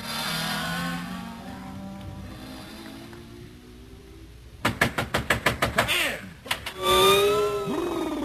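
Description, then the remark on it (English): A door at an Arctic outpost, in 80-below cold, is opened with a quick, loud run of about eight sharp rattling knocks, followed by a brief scrape and a couple more bangs, over a steady tonal hum. “Close that blasted door.”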